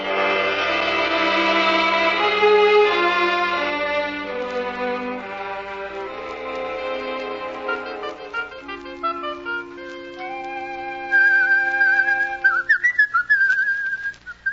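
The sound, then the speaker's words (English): A man whistles a slow, wandering tune alone, the melody clear, its notes rising into sharper, more piercing phrases toward the end. “I didn't know you could whistle about our troubles.”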